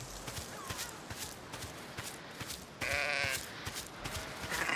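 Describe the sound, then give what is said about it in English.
In the video game Bleat, a sheep bleats loudly in a sustained, wavering call after being stepped on, with scattered footsteps and rustling movement on the ground before and around it. “Looking for sheep in all the wrong places.”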